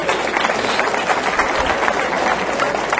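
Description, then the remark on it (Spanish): A group applauds steadily for about three seconds after reciting the books of the Bible, a dense, crackling wash of many hands at even loudness with no voices rising above it. “Ahí nos confundimos un poquitito, pero desen un aplauso, lo están haciendo muy bien.”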